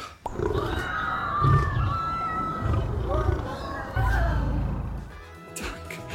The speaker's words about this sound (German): Kannst du jetzt noch Sound hinzufügen, dass der Löwe grölt und Leute im Hintergrund schreien?